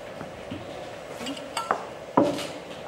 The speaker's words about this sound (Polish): Jeszcze trzeba kubki postawiać, łyżki.